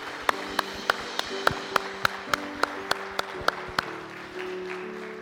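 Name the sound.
audience applause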